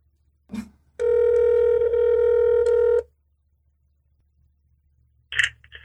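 A phone call to a mother's number ringing over speakerphone: a short click, then a single steady electronic ring tone lasting about two seconds, followed by quiet and a brief beep near the end. No one speaks.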